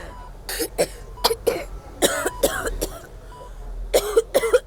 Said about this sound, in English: splutters and coughs until a nurse appears at her hospital bed. This is where the 28-year-old has spent nearly every moment of the last 2 years suffering after the Beirut port explosion of 2020.